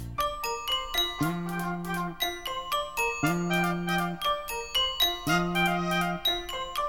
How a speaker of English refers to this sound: Why is it clear when you're around? I always hear the sound of wild wedding bells.